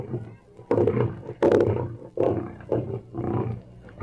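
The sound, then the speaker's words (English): Deep, muffled roars and growls of caged circus lions rise in several throaty bursts, some overlapping, with a dull quality, early in the morning along a long line of cages at a circus train. “Listen to the muffled roar of the lions.”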